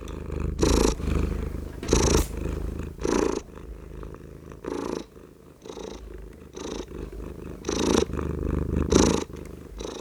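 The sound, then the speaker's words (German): A fat tomcat named Bolle purrs, a steady low rumble swelling in rhythmic pulses with each breath, roughly once a second, with no talking throughout. “Das war der dicke fette Bolle, der Kater von Else und was sein Schnurren und Miauen”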